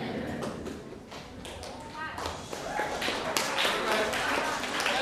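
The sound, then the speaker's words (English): An audience breaks into scattered applause, a dense patter of many hands that swells and grows steadier partway through, with murmuring voices mixed underneath. “Let's hold on the clapping now until we're finished up.”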